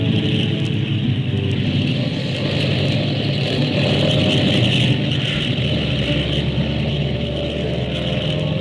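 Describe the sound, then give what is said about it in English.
The four engines of an airliner, two port and two starboard, roar loudly and steadily, a dense continuous drone with a deep rumble that shifts in pitch partway through as they power up for takeoff. “Skyliner, flight 35, ready. Take off when ready, flight 35.”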